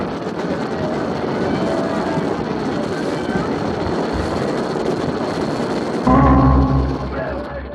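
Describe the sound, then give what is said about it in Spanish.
A medium Miklos X-30 jet aircraft roars steadily overhead, a loud, continuous rushing whine that fills the whole recording, with a brief voice cutting in loudly near the end. “Calimán y sus amigos van huyendo en el jet mediano Miklos X-30 robado.”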